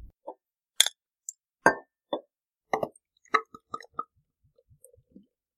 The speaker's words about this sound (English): the beer is poured